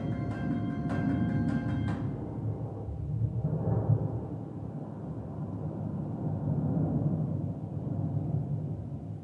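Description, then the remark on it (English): A sharp, crackling thunderclap from a West Texas thunderstorm splits the air, then breaks into a deep rolling rumble that swells again and keeps echoing across the valley for several seconds. “This last clip here, it you hear the thunderclap and then you hear it bounce across the valley.”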